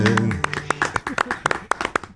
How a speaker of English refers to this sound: It'll get a golf clap from us every single time. Every time.